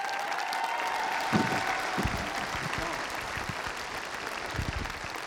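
A crowd claps steadily, a dense, unbroken wash of hands that holds at an even, fairly loud level for the whole stretch without fading.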